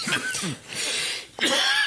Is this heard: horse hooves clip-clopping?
no